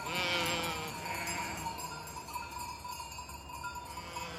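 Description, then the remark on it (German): A flock of about 50 grazing black sheep bleats outdoors, with one loud, wavering bleat at the start over a murmur of other bleats, while small bells jingle steadily in the background. “Dort grasen schwarze Schafe, gut 50 Stück.”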